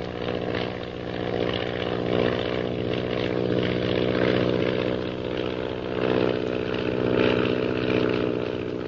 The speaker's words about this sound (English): Shanghai Lil zooms skyward with the intention of climbing above the mysterious purple triangle plane unnoticed.